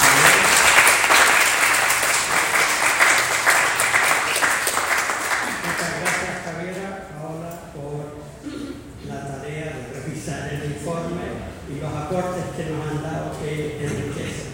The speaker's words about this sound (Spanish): Dada la hora, quiero pedirles un gran aplauso a nuestros.